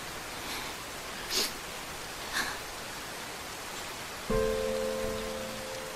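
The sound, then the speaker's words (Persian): Steady rain pours down on a street where a person walks, a continuous hiss with a couple of brief splashy transients, then a low sustained tonal hum like a passing vehicle or horn rises near the end. “توی خیابون زیر بارون قدم میزنه.”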